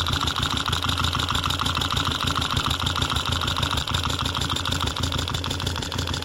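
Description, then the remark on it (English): An engine idles steadily, picked up by a contact mic at the top of the engine near the valves, with a fast, even ticking of the valve lash riding over the low rumble throughout. No one speaks. “You can usually hear a sort of ticking up there if it's running right.”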